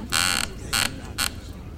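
A chair creaks three times in quick succession, bright, scratchy squeaks, the first one longest and the next two shorter, standing out clearly over a low background hum.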